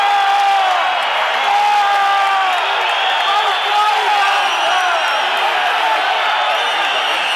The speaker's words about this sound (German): Da regen sich aber die Zuschauer auf, dass die Elfer ausgewechselt wird.